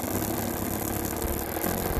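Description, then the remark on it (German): A hand mixer motor whirs steadily and loudly while mixing a batter of flour and baking powder, a continuous low, buzzing drone with a slight vibration and no pauses or voices. “Ja, da hört man den bassigen Motor schon.”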